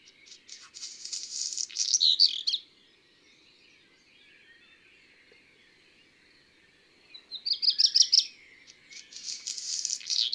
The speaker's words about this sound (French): Le chant du rouge que noir peut varier d'une région à l'autre. On appelle ça les dialectes. Voici un autre rouge-queue au chant un peu différent. Et la première partie de son chant ressemble plus à une stridulation.